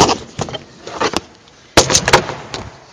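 Papers being shuffled and rustled, a series of irregular crackling bursts with a short pause midway, then a louder flurry of handling. No one speaks.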